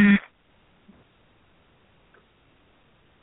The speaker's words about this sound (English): I heard a buzzer. No. Go ahead, please.